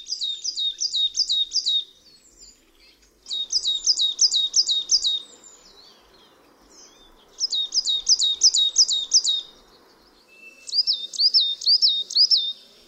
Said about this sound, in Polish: W odróżnieniu od sosnówki, sikora uboga nigdy nie zmienia układu sylab tworzących frazę. Niekiedy zmienia jedynie tempo śpiewu. Zwykle jest to także połączone ze zmianą miejsca, z którego śpiewa samiec.